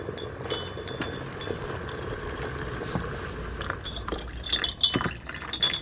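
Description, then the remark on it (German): Freshly boiled water is poured steadily into cups to make dried woodruff tea: a continuous trickling hiss with a few light ceramic clinks toward the end, getting slightly louder as the cups fill. No voices. “Ich gieße uns ein.”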